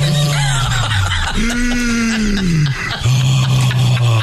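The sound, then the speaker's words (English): A voice imitates Darth Vader's heavy, mechanical breathing: three loud, raspy breaths in a steady rhythm, each carrying a low droning tone, with short pauses between them. “It would have been very similar to this, I think, in terms of breathing sound.”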